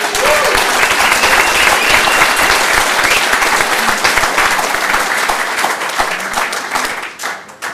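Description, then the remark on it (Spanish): Sustained applause from a crowd for the committee that organized the event, dense rapid clapping that stays loud and steady for several seconds before tapering off at the end. “Y si pueden darles un aplauso al comité.”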